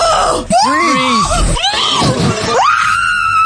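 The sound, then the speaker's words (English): A woman screams in fright, loud, her shrill cries wavering up and down in pitch before ending on a long, sustained high shriek. “Bro, I didn't even know that was even possible to do that and not scream like your GK Barry in last night's episode of I'm a Celeb.”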